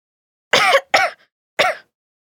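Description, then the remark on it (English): Three harsh, raspy coughs from one person with the flu at the school nurse's, loud, the first two in quick succession and the third after a short pause, with silence in between and no talking. “You've got a bad cough.”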